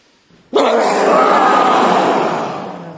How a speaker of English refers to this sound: Okay, let's do a great big lion breath. So a nice deep breath in.